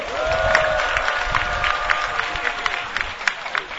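At a workers' rally, a crowd applauds a fellow activist steadily, many hands clapping in a dense, continuous patter with scattered sharper claps throughout, and a faint tonal hum in the first second.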